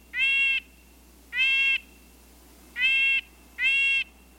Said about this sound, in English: The word nasal comes to mind when describing the call of a red-breasted nuthatch.